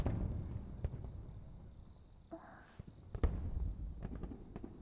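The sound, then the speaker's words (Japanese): Faint fireworks pop and crackle at irregular intervals over a low, steady rumble, bursting in a dark night sky, with a few sharper bursts standing out near the middle. No one is talking. “花火がこんなに綺麗って思ったのは初めて。”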